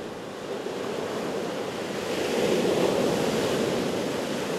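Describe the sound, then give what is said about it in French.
Ocean waves wash onto the shore of the Basque coast at Biarritz in a steady, rushing roar, with one surge swelling louder midway before easing back. There is no talking, only the continuous surf. “Et pourtant, écoutez, les vagues de l'océan, le calme.”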